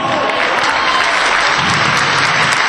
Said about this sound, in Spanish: Si les parece, ya sin más dilación, comenzamos para que todos ustedes lo conozcan y eso sí, le aplaudan muchísimo con la gente del Fútbol Sala Cadete Femenino.